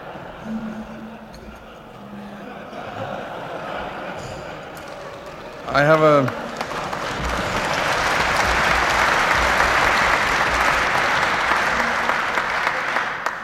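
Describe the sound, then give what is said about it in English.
An audience applauds steadily as a speaker slowly rises to address the Chairman and Lord Mayor, the clapping thickening and growing louder about halfway through into a dense, sustained roar of hands. A brief rising tonal cry cuts through just before the swell. “Chairman, Lord Mayor, ladies and gentlemen, I take a long time to rise because it sustains the applause, which is exactly what I need.”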